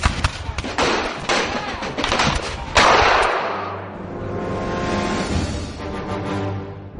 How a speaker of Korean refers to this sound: 영국군이 두 번째로 언덕으로 올라왔고요. 아메리카 군대는 다시 총을 쏘았습니다.